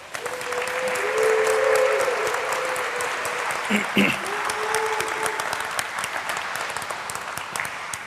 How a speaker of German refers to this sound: Einen großen Applaus!